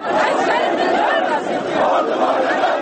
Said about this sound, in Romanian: Poliția azeră a tras cu gloanțe de cauciuc, tunuri de apă și gaze lacrimogene într-o mulțime de demonstranți care au protestat astăzi la Baku față de presupusele abuzuri și omoruri din armată.